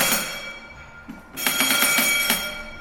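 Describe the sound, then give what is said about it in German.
A steamship's brass engine order telegraph with a lever, used to signal from the bridge to the engine room, rings in a bright, metallic clatter, pauses briefly, then bursts into a louder run of rapid repeated dings with a sustained high ring. “steht ein Maschinentelegraph, wie ihn jedes Dampfschiff hatte.”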